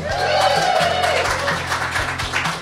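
An audience at a live evening event claps steadily and loudly for a few seconds, a dense crackle of many hands, with a brief whistle-like tone rising out of the crowd near the start.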